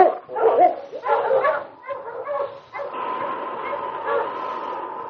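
Several sled dogs bark and yip excitedly in quick, overlapping bursts, then settle into a continuous noisy chorus of yelps and whines.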